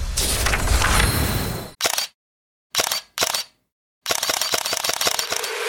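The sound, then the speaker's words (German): Camera shutter clicks of a Xiaomi 17T Pro with Leica camera: a noisy rush, then a few separate snaps with short silences between, ending in a rapid burst of continuous shutter firing. “Mit dieser Kamera willst du einfach alles festhalten.”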